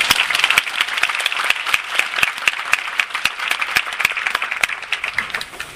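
Sustained applause from an audience in Taipei welcoming a speaker at a shop.com business presentation, many hands clapping steadily at an even, fairly loud level with scattered sharper claps, fading slightly near the end.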